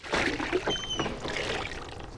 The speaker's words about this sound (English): takes off his polo neck t-shirt, which has a large vomit stain on the front, and washes it in a tub of water.